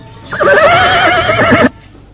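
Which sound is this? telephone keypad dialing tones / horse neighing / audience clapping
horse neighing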